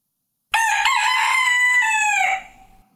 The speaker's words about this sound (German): Im selben Moment, während er noch redete, krähte der Hahn.